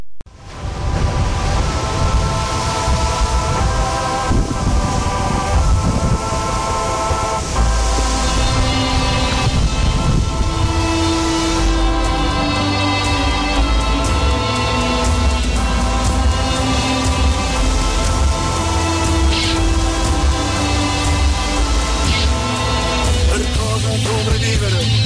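A loud rock band plays a full, driving instrumental with distorted guitars, steady bass and pounding drums that build and stay dense throughout, with no voices heard.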